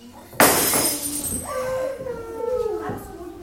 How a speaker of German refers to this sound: Ein Glas voller Muscheln ist runtergefallen, eine Lehrkraft holt Schippe und Besen, der Rest arbeitet konzentriert weiter.